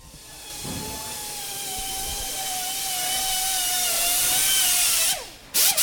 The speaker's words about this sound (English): It's also noisy. Imagine cars being lifted overhead with students in their own stations just cranking away, working in teams around each vehicle. Listen for yourself.